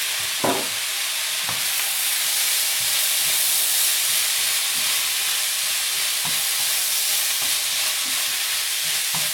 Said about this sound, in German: Ja, das zischelt ganz schön, ne? So, da haben wir jetzt hier super Reis.